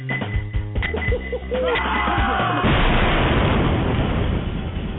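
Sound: pipe bomb explosion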